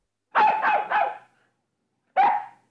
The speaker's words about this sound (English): In the garden, Nana looks at the sky and barks.